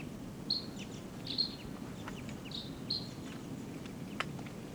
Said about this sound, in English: There's a crossbill right here off the camp in a ponderosa pine looking down. Type 2 bird giving calls.